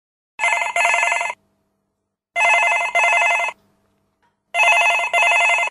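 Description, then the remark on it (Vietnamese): A telephone bell rings in three double bursts, each pair of bright metallic trills followed by a pause, loud, with no one speaking. “Khi chuông điện thoại reo, bác sĩ Clinton Shannon đang ngồi nghỉ trong giường dưới bóng một cây sồi.”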